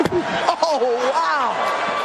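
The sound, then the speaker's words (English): A single sharp slap across the face, delivered by Will Smith, rings out at the start, followed right after by a voice exclaiming and talking over a faint murmuring background. “So here is a quick update in the saga of, well, the slap heard around the world.”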